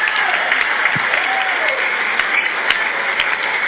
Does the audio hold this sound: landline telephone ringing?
no